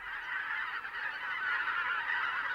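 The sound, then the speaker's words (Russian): A flock of migrating wild geese and brent geese honks continuously, many overlapping throaty calls forming a dense, steady chorus that stays fairly loud throughout, with no talking. “Свистят утиные крылья, звенит гортанная перекличка диких гусей и казарок.”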